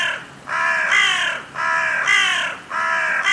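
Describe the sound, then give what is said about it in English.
A crow caws three times in a steady rhythm, each call loud, harsh and drawn out, with brief pauses between them and no other sounds around. “Let's listen to the sound of a crow. What do you hear? I definitely hear caw.”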